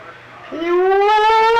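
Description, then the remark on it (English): A person imitates a hog call: after a brief quiet moment, a single loud, drawn-out vocal cry that starts low and slowly rises in pitch, holding steady for over a second. “And how do you call hogs?”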